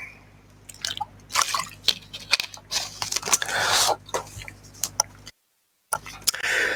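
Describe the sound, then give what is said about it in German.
Someone takes a sip of a drink: wet slurping and swallowing with small clicks of the mouth and glass, a brief silent pause, then a final gulp. “Zur Steigerung der Spannung muss ich jetzt mal einen Schluck trinken.”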